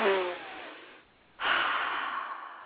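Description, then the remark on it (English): A person takes two long sniffs through the nose, each a breathy rush of air, separated by a brief pause, with no talking. “One last sniff.”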